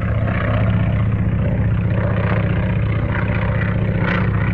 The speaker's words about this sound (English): Later, a small airplane flies through clear skies, piloted by Joe.